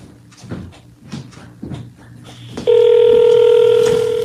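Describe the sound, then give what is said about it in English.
Someone dials an old landline telephone to make a call: a series of evenly spaced clicks and clunks, followed by a loud, steady electronic tone that holds until the end. “I'm going to call him and you can listen in as I yell at him.”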